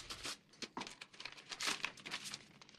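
An envelope is slit open with a paper knife: a few seconds of close, crisp paper tearing and crinkling in quick bursts, quiet overall with no voices.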